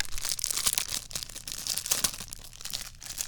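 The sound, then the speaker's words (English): A plastic packaging bag crinkles and rustles, a steady run of crisp, irregular crackles lasting a few seconds as it is handled and pulled open to take out a case, with no voices. “He takes the case out of the bag. Better hide that plastic or my cat's going to chew on it.”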